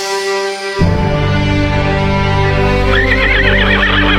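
A horse neighs loudly, a long whinny with a wavering, trilling pitch toward the end, over a low rumbling background.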